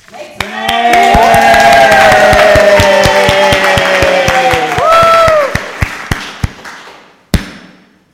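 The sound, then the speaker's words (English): A very large crowd cheers and shouts loudly for several seconds as Jesus rides in on a donkey, voices swelling together while sharp claps and thumps punctuate the roar, then the cheering fades out, ending with a single loud thud. “A crowd gathers, a very large crowd.”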